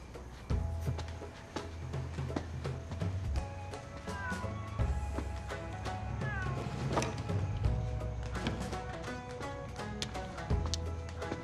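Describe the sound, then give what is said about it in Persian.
A cat meows a couple of times, short rising cries that stand out over a busy musical background with steady low rumble throughout. “یه نصیحت، به گربه غذا نده.”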